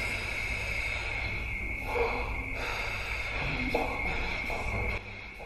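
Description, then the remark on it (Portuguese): A steady, buzzing didgeridoo drone holds without a break while three quick, sharp nasal sniffs cut in over it as the player breathes in, keeping the sound going with air stored in the cheeks (circular breathing); fairly loud, with no talking. “quando o ar está a acabar nos pulmões, enchemos as bochechas de ar e este ar que aqui está dentro usamos para manter o som do didgeridoo enquanto inspiramos.”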